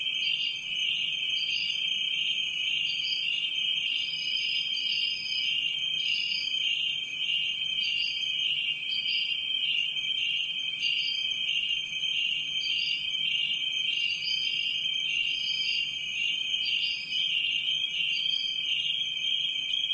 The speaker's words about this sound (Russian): Вот послушаем с этого альбома пьеску в исполнении кузнечиков китайских